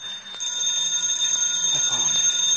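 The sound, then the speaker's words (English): A telephone rings with a continuous, shrill metallic trill, steady and fairly loud throughout, with no pause in the ringing. “And as it turned, it made a ringing noise.”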